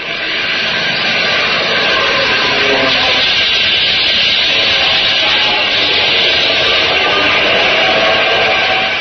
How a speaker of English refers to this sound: No. Neither can I, but they're not ours. What? No American engine sounds that way. Those are zeros. You're right. They're coming in out of the west with the sun behind them.